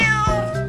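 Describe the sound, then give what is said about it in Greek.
A single loud cat meow, drawn out and tonal with a slight bend in pitch partway through, heard on its own without any talking. “Ιστορίες για σκύλους, γάτες”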